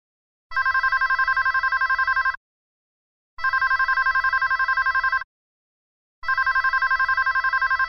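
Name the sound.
phone ringing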